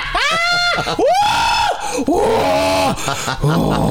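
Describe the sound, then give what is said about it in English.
A person lets out a series of loud, drawn-out screams, three or four long wailing cries in quick succession, each rising and falling in pitch, with no talking in between. “Making those screaming noises.”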